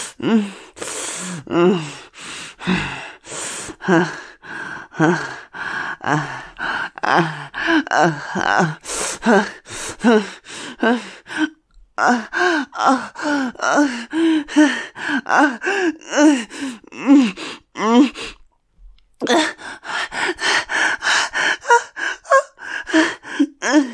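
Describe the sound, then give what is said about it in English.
Rapid, heavy breathing with repeated sharp gasps and strained, moaning exhales, continuing rhythmically for most of the stretch with brief pauses. “Remember to breathe. Don't let your breathing get away from you.”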